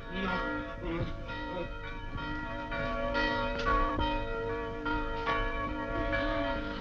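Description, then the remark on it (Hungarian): A church bell rings out steadily, its sustained, overlapping tones swelling and decaying in a continuous peal with periodic strikes, full, with no voices over it. “Megszólalt a harang. Lehetünk a templomba.”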